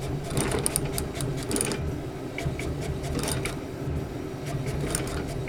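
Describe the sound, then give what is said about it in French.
A roll label printer runs with a steady mechanical whir and a rapid series of light clicks as labels feed and rewind, continuous for several seconds with no talking. “Donc c'est vraiment une imprimante à étiquette en rouleau.”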